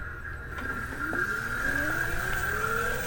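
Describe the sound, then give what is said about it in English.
A Zero electric police motorcycle of the Clovis Police Department, California-made, hums steadily, its high motor whine climbing gradually in pitch as it speeds up, with a low rumble underneath and no voices. “Today, Clovis PD received 5 electric motorcycles, making them the largest fleet of environmentally friendly motorcycle cops in the nation.”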